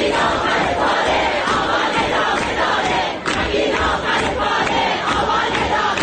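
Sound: crowd chanting protest slogans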